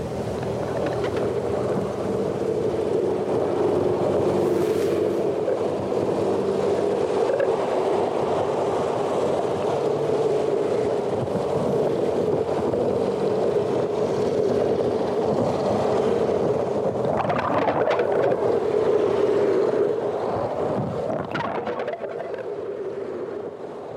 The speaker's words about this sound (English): We can't hear the dolphins, of course, but what we can hear is the terrible din of all these ships' engines and propellers. It's a bit like an underwater M1 with all the traffic bumper to bumper in both directions.